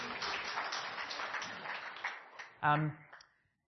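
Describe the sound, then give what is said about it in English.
A crowd of women claps steadily for a group of men in a dense, even wash of applause that gradually thins out, with a brief loud voice cutting in near the end as the clapping fades away. “Ladies, give these guys a clap.”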